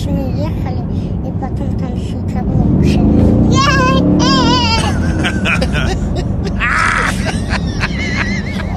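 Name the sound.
child whistling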